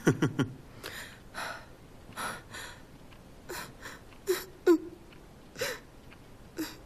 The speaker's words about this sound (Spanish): ¿Qué sucede? ¿Otra vez estás llorando?